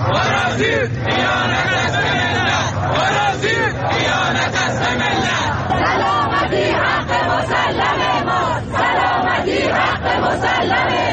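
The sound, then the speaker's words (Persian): A large crowd chants loudly and steadily at a street protest in Shiraz over the rumored spread of jamming signals, many voices shouting slogans together in rising and falling rhythmic waves for the whole stretch, with a constant roar of people beneath. “تعدادی از شما مخاطبان گرامی برای ما عکس و ویدیو فرستادید که در این قسمت از برنامه به قسمتی از اعتراض مردم شیراز در رابطه با انتشار پارازیت گوش میکنیم.”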